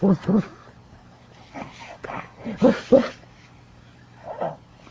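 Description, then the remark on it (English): A puppy gives a few short, high yips and whimpering cries in quick bursts, with a softer whine near the end. Faint voices murmur. “He's a puppy?”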